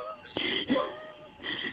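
An asthma patient, recording themselves during an attack: strained, whistling wheezes ride on labored breaths, a high reedy tone sustained through each inhale and exhale, with a short gap between breaths before another wheezing draw begins.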